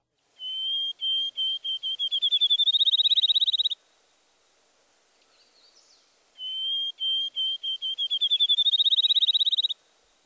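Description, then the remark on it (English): Two renditions of a field sparrow song: clear, high whistled notes that start slow and spaced, then speed up into a rapid trill, like a bouncing ball. No voices are present. “Does the rhythm of the field sparrow song sound like a ping pong ball dropping on a table?”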